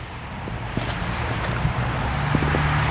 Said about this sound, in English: All right. I'll let the 8 Market bus go by.